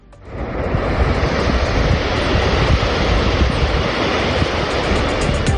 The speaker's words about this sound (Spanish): Son los borbotones de agua saliendo, escapándose, perdiéndose de la presa de Beleña. Concretamente, estas imágenes, porque son imágenes, es un vídeo con este sonido, están tomadas el pasado 21 de enero.